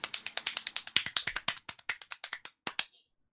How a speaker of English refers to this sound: Someone clapping.